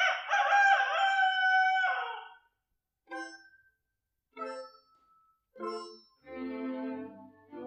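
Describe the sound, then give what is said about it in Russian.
A rooster crows loudly in a long, strained call lasting about two seconds, followed by several shorter clucking bursts and a final drawn-out squawk. “За окошком снова прокричал петух.”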